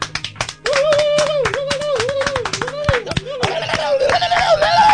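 A studio audience on a TV program breaks into steady, loud applause to welcome a guest, dense overlapping claps running throughout, while a wavering melodic tone, likely a music cue, plays beneath the clapping.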